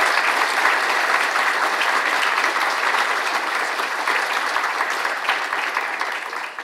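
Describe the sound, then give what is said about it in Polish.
Steady audience applause at a congress fills the whole stretch, a dense crackle of many hands clapping at an even, sustained loudness that eases off slightly at the very end. “Brawo, raz jeszcze, taka kumulacja.”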